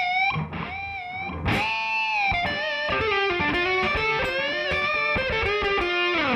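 An electric guitar plays a melodic line through a tube echo delay effect, each note trailing into soft repeats that blur together into a dense, continuous wash at steady loudness, with no voices.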